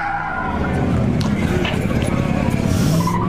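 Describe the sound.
Cars skid at a street race with a steady, loud tire squeal over rumbling engines, a continuous roar filling the whole moment, with faint voices mixed into the noise.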